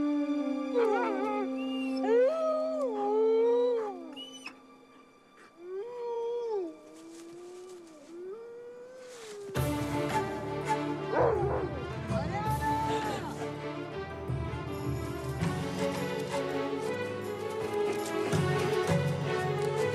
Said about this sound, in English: And the wolves. What? You saw it? No. There were two of them.